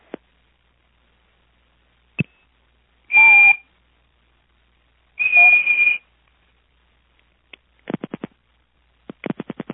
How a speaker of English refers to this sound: Before, I would, you know, you'd hear clicks, and you'd hear a little whistle, you know, a little tweet or whatever.